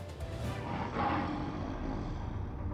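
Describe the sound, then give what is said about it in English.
A deep, rumbling lion roar sounds throughout a throne room, loud, sustained for a few seconds with a swelling peak midway before fading slightly, with no voices present. “The roar of a lion sounded throughout the throne room.”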